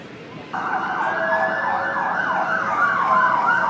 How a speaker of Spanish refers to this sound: Otro ruido típico de Londres son tantas sirenas, que por cierto son muy escandalosas, algunas de ellas son muy muy escandalosas, pero bueno, eso, que ahí están las sirenas.